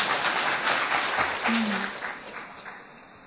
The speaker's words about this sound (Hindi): अभी ताली बजाओ, अभी बजाओ।